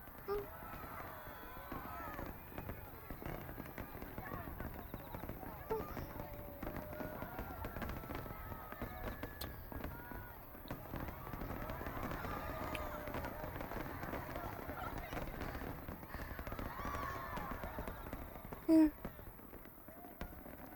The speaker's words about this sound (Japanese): あ、ほらお兄さん、次は目玉の50連発花火ですよ。わあ、すごいすごい、綺麗ですねお兄さん。